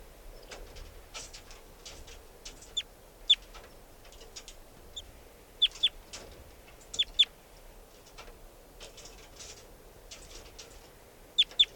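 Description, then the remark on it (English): A wild bird sitting on top of a cage chitters in quick, high-pitched bursts, sharp chips coming in pairs and small clusters over a steady low hiss, with soft clicks and rustles between. No one speaks. “And chitter by the wild bird. Chitter, wild bird.”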